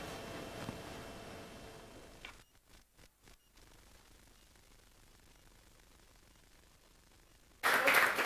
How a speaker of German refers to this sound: Dein Applaus. Vielen, vielen Dank.